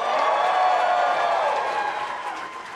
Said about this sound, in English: All right, cheer if you think I'm taller. Oh, All right, cheer if you think my wife's taller.